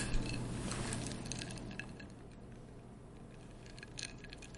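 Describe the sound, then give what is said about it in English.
Drinking glasses holding a non-alcoholic cocktail clink together a few times in a toast, light, bright taps scattered over a few seconds, soft, with a low steady hum in the background. “All right, I'm going to taste mine. Right, wait. Cheers. Cheers.”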